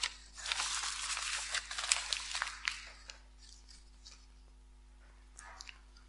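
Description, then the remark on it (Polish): Sheets of paper being torn, a loud, raspy rip lasting about three seconds with crackling bursts, followed by quieter rustling and a couple of short tearing sounds. “Mnie samo to doświadczenie przeraża, pomimo, że są to tylko kartki papieru.”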